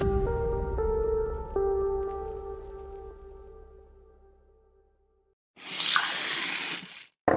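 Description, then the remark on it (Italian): A sustained musical chord rings and slowly fades, then after a short silence a tap gushes water steadily for about a second and a half before shutting off abruptly. “Noi beviamo ogni giorno l'acqua del rubinetto, anche a scuola, perché è buona, sicura e controllata da Gruppo K.”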